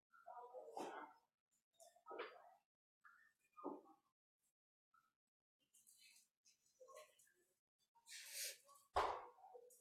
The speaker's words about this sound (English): It's a bark.